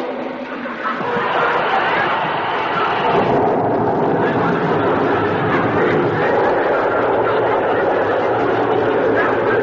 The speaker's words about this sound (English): I just pour one tablespoon of this soothing syrup into this glass of water. Uh-huh. There. Now, listen to it. Fizz.